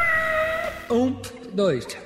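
A cat meows a few times: a drawn-out, steady mew followed by two shorter, bending meows with a rising-then-falling pitch, fairly clear and with no talking over them.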